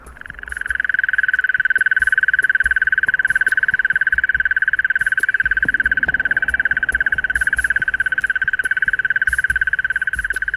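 A mole cricket sings a continuous, steady churring trill that holds at an even, fairly loud level for the whole stretch, with no voices and only faint background noise.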